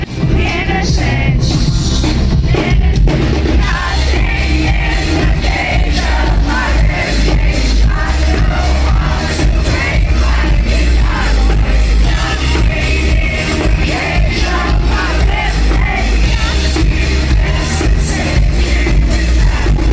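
Loud, continuous live rock concert audio recorded on a phone, with booming music and an excited crowd yelling and whooping throughout, a fan screaming as loud as they could blended into the roar for the full stretch.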